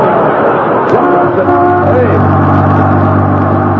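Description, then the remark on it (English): A heavy Los Angeles bus engine rumbles steadily in Alaska, its low hum shifting in pitch as it approaches, with a brief squeal near the start and a continuous loud drone throughout. “that's a Los Angeles bus.”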